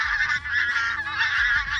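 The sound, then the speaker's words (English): Pink-footed geese honking in a dense, continuous chorus, many overlapping nasal calls at a steady loud level with no pauses and no voices. “It's possible that the pink-footed geese followed their lead, which could prove to be a rare example of cultural knowledge being transmitted between species.”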